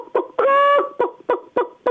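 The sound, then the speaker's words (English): A voice imitates a hen's cackle after laying an egg: a run of short clucks followed by a drawn-out, tonal squawk, then more rhythmic clucks, fairly loud with no other sounds. “No, after she's laid her egg, she tells everybody like this.”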